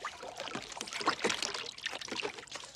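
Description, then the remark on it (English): Water splashing and pouring as a man scoops water with his hands and splashes it onto his face, with irregular sloshing bursts and trickling drips, no voices. “Nick wears a confused expression and Russ washes his face in the water.”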